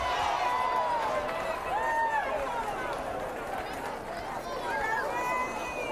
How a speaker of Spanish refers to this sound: A su llegada han sido recibidos con aplausos y vivas al rey.